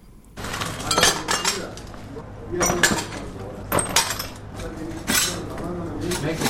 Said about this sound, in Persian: پارچه های شیشه را جمع می کنند و می خواهند ویرانه های راکت را که صبح اول قوس به این خانه در حصه دوم خیرخانه به بار آورده ترمیم کنند.